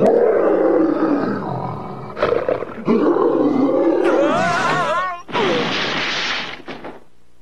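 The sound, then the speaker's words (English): A Bengal tiger roars loudly in a long, rough, rumbling growl that rises and wavers in pitch, breaks off briefly, then ends in a harsh, hissing snarl before fading out. “I told you there shouldn't be no Bengal tigers around these parts.”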